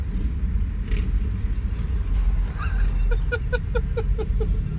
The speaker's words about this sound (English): Every motorcycle gang in Brooklyn is driving past this today.